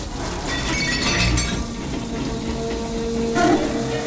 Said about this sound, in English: A man walks into a communal shower and turns on a faucet, which then disappears into the tiled wall.